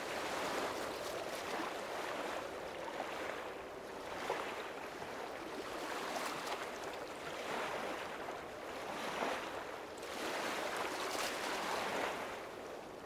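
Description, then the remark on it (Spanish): Waves break steadily on a shore, each surge swelling into a broad, hissing wash that rises and recedes every couple of seconds. The surf is continuous, with no voices. “El ruido de las olas rompiendo en la orilla.”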